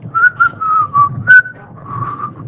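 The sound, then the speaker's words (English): A man whistles a bouncy, wandering tune in clear, mid-high notes, with a brief higher chirp partway through and a low rumbling underneath, while shoveling up his dog's droppings and throwing them over a fence. No one speaks. “And one day, Pastor Spillman drove home, and this guy was whistling while he was shoveling up his dog's dew and throwing it over the fence.”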